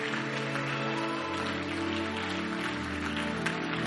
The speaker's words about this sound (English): Give the Lord a mighty clap offering of praise today. Come on, bless the Lord.